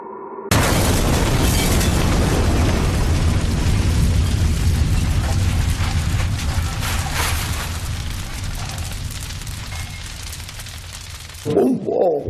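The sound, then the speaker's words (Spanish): A bomb of 6 kilos of Goma-2 explosive in an anonymous cardboard box explodes at the door of the Aldana, Garbi's bar, with a sudden, massive blast, then a heavy, low rumbling roar that slowly fades over about eleven seconds, before a voice briefly starts at the very end. “Así, a ciegas, una caja de cartón anónima, 6 kilos de goma 2, estallan en la puerta de la Aldana, del bar de Garbi.”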